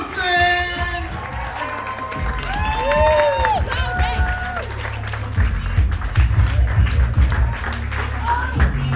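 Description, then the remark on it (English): An audience at a comedy show at the West Palm Beach Improv applauds and cheers throughout, with a steady wash of clapping mixed with whoops and raised voices, the noise building slightly toward the end. “They stopped clapping a long time ago, DJ.”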